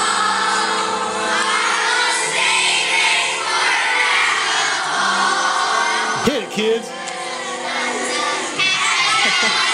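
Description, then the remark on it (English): Children in a video played on a phone at max volume scream and shout loudly and continuously, a dense chaotic wall of high voices, with a brief dip and a sharp swoop partway through. “Yeah, all the kids are just now screaming.”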